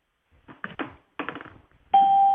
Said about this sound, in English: Every time you hear a ding, as you just did, there's somebody else joining in.